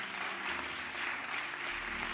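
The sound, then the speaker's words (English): A church audience claps in praise, a dense, steady wash of many hands applauding together with no break, bright and full throughout the couple of seconds. “Come on, get a little hand clap of praise once again.”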